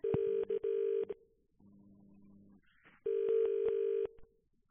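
A telephone rings in two loud bursts, each about a second of rapid trilling, separated by a short pause filled with a faint low hum. No one speaks.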